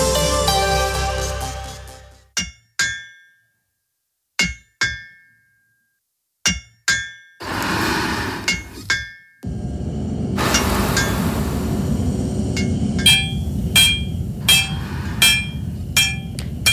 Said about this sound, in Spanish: Un martillazo, otro y otro más. El hierro canta, suena distinto al metal industrial, suena a memoria. Estamos en Segovia, en una fragua casi centenaria. Aquí trabaja todavía un hombre que lleva más de 80 años forjando hierro.